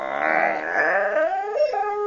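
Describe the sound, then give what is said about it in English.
A tired puppy, rolling around its owner's bed at 3:30 a.m., whimpers and whines in one drawn-out, wavering cry lasting about two seconds that sounds like the word "no", its pitch sagging and wobbling lower toward the end. “At one point, the tired pooch lets out a sleepy whimper that actually sounds like the word no.”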